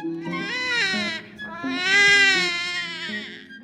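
baby crying

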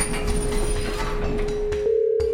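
elevator door opening

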